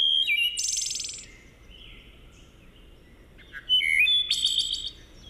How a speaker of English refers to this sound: As we go out, let's listen to the song of a wood thrush, which is another beautiful species that's in some decline right now. So let's hear that.